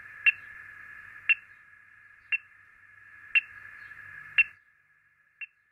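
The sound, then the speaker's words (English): A radio tracking receiver, used with an antenna by a scientist to locate a radio-tagged bird, gives six short, sharp beeps about a second apart over a steady band of hissing static; the static cuts out just before a softer final beep. “The closer the antenna-wielding scientist gets to the bird, the louder the beeps or pings that come from the receiver.”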